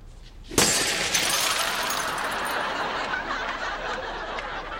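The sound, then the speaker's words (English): A psychiatrist's car being smashed up: one sudden, loud crash of breaking glass, then several seconds of bright, crackling debris and tinkling shards that slowly fade. “So you're beating up your shrink's car?”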